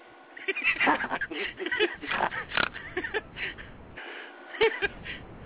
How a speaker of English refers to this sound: Yeah, well, … over here snoring like a motherfucker.